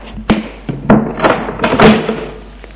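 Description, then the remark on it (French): A man shuts an apartment door after a visitor leaves, with a series of solid thunks and a short rattle of the latch and frame, fairly loud, with no voices. “Robert sort. Frédéric ferme la porte.”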